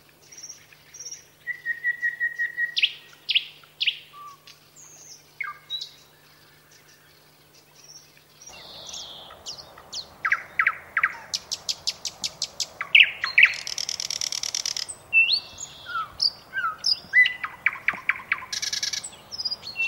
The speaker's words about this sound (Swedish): Ja, det blir nog inte lättare när jag säger att den tillhör arten flugsnappare.